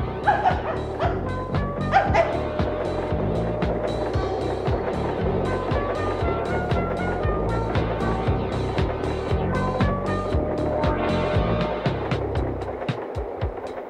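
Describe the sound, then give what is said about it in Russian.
A small, fluffy white dog in a railway wagon yelps and whimpers excitedly, jumping up, in a rapid, repeated series of high-pitched cries, fairly loud over a steady low rumbling background. “Навстречу бросился мохнатый жалобно визжащий комочек! Беленькая собачка высоко подпрыгнула, норовя лизнуть меня в лицо.”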